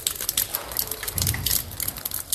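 Rain falling in a courtyard, a dense, steady patter of countless small crackling drops with bright, sharp high tones and a soft low rumble underneath, no voices.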